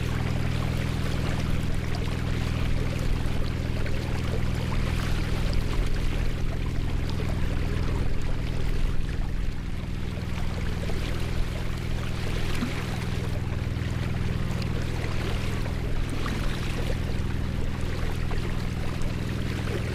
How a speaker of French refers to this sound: Voilà, on a débarqué sur la rive droite du fleuve Mayo après un peu plus d'une heure de bateau. Les bateliers sont en train de rentrer à Moyobamba